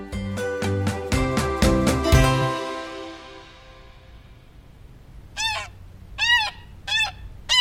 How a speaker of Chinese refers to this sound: 哇，好可爱的小鸭子哦。 那天爸爸下班回家，抱着一个深褐色的纸箱，里头装着四只小小的毛茸茸的小鸭子。很可爱吧，你仔细观察一下这些鸭子哦。